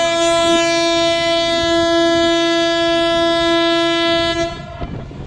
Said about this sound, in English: The foghorn. Wow. It's so loud. I can't believe how loud it is. But I guess it's important so that we don't hit any other ships.